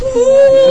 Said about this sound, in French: Elle pleure de joie. Amen.